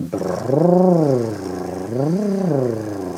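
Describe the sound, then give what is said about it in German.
A voice does a buzzing lip trill like a motorboat as an exercise for the vocal cords, sliding up and down in pitch in two smooth arcs, steady and fairly loud with no talking. “Die erste Übung, die sie empfiehlt, ist wie ein Motorboot brrrr zu machen.”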